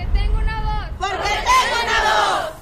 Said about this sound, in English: Luis listens to the chants of "I Have a Voice" from the sidelines.